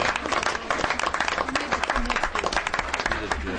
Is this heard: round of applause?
yes